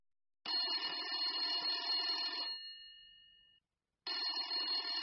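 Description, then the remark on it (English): A telephone rings loudly on a call to a brother that goes to his answering machine, one long bright ring that fades out, then a pause before a second ring starts and is cut off. No one speaks. “I just got my brother's answering machine again.”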